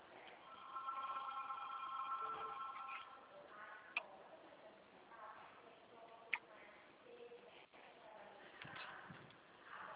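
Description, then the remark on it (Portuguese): A telephone rings with a steady electronic trill, its tone rising and falling over several seconds, followed by a couple of sharp clicks and faint murmuring in the background. “O telefone não para, menina.”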